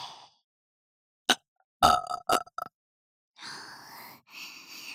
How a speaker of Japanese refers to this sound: 私のゲップに、惚れちゃえ。